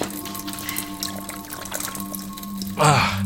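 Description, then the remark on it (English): Drinking water pours and splashes steadily against a low background hum, ending in a louder, rising gurgle as a container fills up near the end. “Look, if you won't give us our water, I'll do it.”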